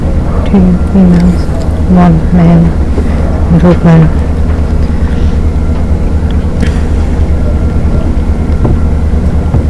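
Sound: boat engine on water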